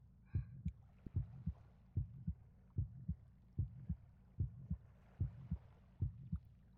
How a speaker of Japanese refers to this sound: 胸がもうドキドキしてるの。